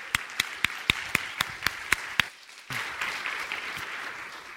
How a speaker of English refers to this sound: Well, thank you for that applause. I appreciate that.